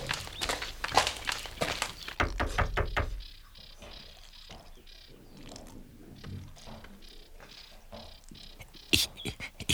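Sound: knocking on a door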